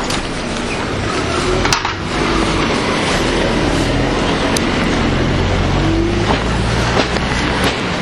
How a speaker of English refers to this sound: Watch out for the bus.